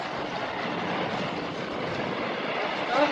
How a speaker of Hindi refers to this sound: हवा भी कितनी तेज है। हमारा जहाज तूफान में गिर गया है। तूफान में फंस गए हैं।